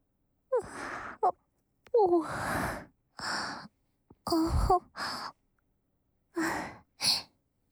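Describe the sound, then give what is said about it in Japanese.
A big yawn right beside the ear, breathy and drawn out, with a sharp inhale and a moaning, sighing exhale broken into several loud, intimate bursts over a few seconds. “ごめん、耳元で大あくびとかって。”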